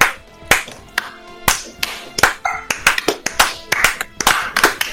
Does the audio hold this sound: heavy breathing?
no